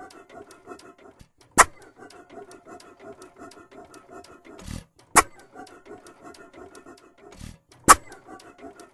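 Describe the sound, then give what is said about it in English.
A 1912 Fairbanks & Mars 6-horsepower Model H single-cylinder farm engine, fired by a low-tension coil with an igniter, runs with a steady rapid clatter of ticking and chuffing, broken by three sharp, loud firing bangs spaced a few seconds apart. “This is a Fairbanks & Mars 6-horsepower Model H. It runs off of a low-tension coil with an igniter on it.”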